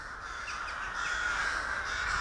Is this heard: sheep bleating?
no